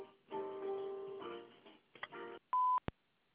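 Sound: voicemail answering machine beep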